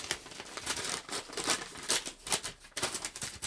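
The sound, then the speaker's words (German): A paper envelope holding a letter from Count Falkenstein is torn open, a steady run of crisp, crinkly rips and rustles lasting a few seconds, with uneven bursts of louder tearing and no voices. “Übrigens, es ist Post für dich da, Papi.”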